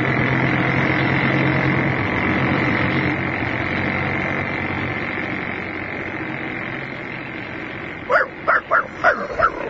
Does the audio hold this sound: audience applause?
no